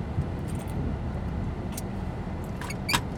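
A few short, soft slurping sips from a drink over the steady low rumble of a car interior, with no talking.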